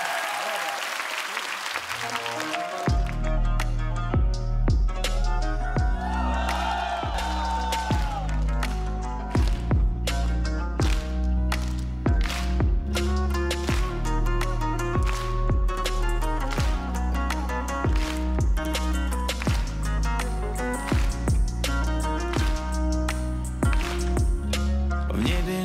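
A brief burst of crowd applause gives way to a loud live pop song intro, with a steady pounding beat, bass and bright synth melody, performed by a singer from Kazakhstan on a folk stage.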